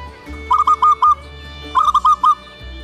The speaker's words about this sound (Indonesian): Hus, pergi kau burung perkutut. Jangan bawa kabar buruk ke rumahku.